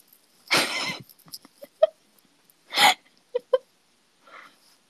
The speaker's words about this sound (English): Let me just say, I'm not confident that my hiccups sound appealing.